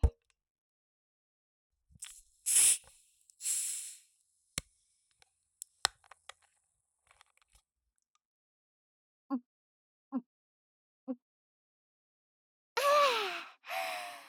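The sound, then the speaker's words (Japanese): Three evenly spaced gulps of a drink from a plastic bottle, followed by a long, breathy, satisfied exhale. Soft clicks and rustles come earlier in the quiet. “あたしばっか飲んでたら寂しいでしょ。”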